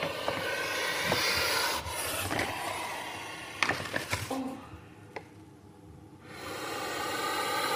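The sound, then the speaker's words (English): A puff adder in an opened cage at Liverpool's venom unit gives loud, breathy hissing puffs, long rasping exhalations broken by a quieter pause midway, with a few sharp knocks and clicks scattered through; the snake bites the microphone. “to record the puffs of a puff adder.”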